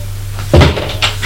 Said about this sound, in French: La porte de la cuisine est ouverte.